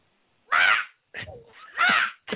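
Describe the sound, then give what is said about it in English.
A person's voice imitates a bird squawking inside the house during dinner, with three loud, raspy caws plus the start of a fourth, separated by brief pauses. “excuse me, is the bird in the freaking house?”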